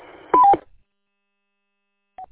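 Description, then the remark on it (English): A short burst of electronic roger beep tones from a mobile amateur radio during a radio check through a repeater, over a faint hiss of radio static, two quick pitched tones stacked together, then silence and a single brief beep near the end. “Radio check sounds real good, except you gotta turn off the Roger beep.”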